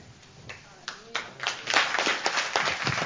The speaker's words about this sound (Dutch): Nou, nog een extra bemoedigend applaus voor ze allemaal. Goed gedaan, hè, of niet?